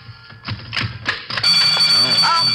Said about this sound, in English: Oh. I always forget that burglar alarm. Here, let me get my other key and turn that thing off.